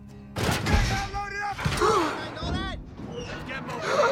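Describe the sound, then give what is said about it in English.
Heavy metal container doors are pushed shut with a couple of dull, booming thuds, while voices gasp and cry out over the clatter. “Ryan wakes up as the container doors are pushed closed.”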